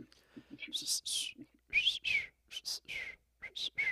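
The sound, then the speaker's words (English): A hunting whistle call is blown in a series of short, breathy, high-pitched blasts, some tonal and squealing, coming in quick irregular bursts with no talking. “But no, I like the whistle that I had and have now, just because I don't have to hold it.”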